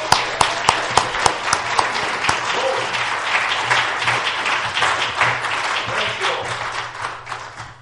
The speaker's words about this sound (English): Amen. Praise God. Let's get another hand clap. Praise for the Lord.